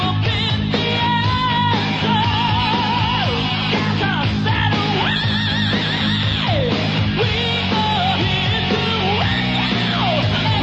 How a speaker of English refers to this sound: Check this part out, though. When he does the scream and then he says, "We are here to rock you!"